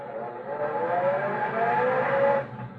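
A stolen car without Hydra-Matic automatic transmission revs and pulls away, its engine pitch climbing and dropping back in steps as the gears change, loud for a few seconds before easing off.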